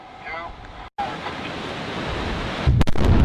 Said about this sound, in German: Im Jahr 2011 wurde, nach langen Verhandlungen und Beratungen zwischen Politik, Nationalpark und den indigenen Völkern, angefangen, die Dämme abzubauen. Mit einem großen Knall. Oder besser gesagt, gleich mehrere Explosionen.